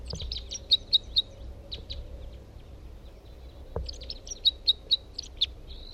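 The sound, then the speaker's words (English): A second male bird sings two bursts of rapid, high-pitched chirps and trills, with sharp accented notes standing out, separated by a short pause over a low background hum. “That's a different bird.”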